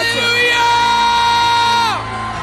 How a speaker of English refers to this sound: And I want you to shout like you've never shouted before. On the count of three, ready? One, two, three. Come on.